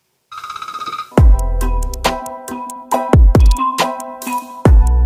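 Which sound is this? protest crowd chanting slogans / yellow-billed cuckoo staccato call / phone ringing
phone ringing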